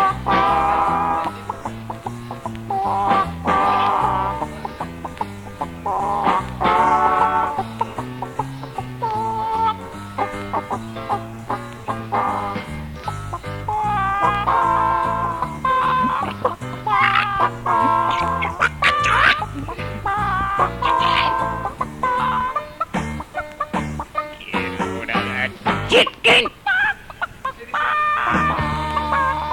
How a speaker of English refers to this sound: Do a rewind on the chicken song, go on. Hey, DJ, rewind that dub plate.